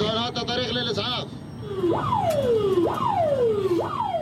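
An ambulance siren, on an ambulance carrying an injured patient, wails with sharp rising then slowly falling sweeps about once a second, loud over a rumbling, noisy background.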